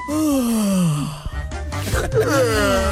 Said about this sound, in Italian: molti fanno vedere dei programmi di economia, mandano non so, dei vocalini di registrazione di persone che sbadigliano anche. No, sì, davvero. Perché lo sbadiglio è contagioso, è vero, è contagioso.